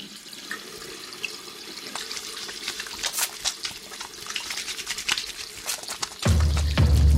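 tap water running

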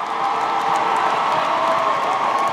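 audience applause and cheering

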